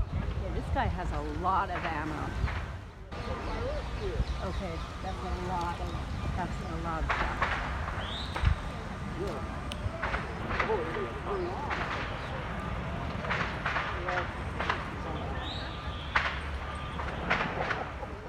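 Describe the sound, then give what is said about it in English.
Scattered gunshots crack out at irregular intervals, sharp, against a steady outdoor din with indistinct voices and commotion in the background, recorded at mid-morning at the height of the events. “At mid-morning that day, at the height of the events, I recorded this. Gunfire.”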